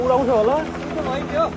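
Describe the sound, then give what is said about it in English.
A rescue helicopter's rotor thuds in a steady, rapid low pulse during rescue operations after a mudslide in a remote region, while a voice speaks over the top of the continuous engine drone. “More than a dozen helicopters have been deployed.”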